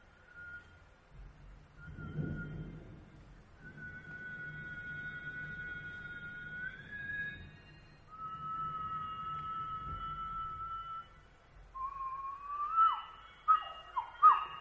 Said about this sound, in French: Sur des sons plus pauvres, je vais siffler, vous allez voir, c'est tout à fait autre chose.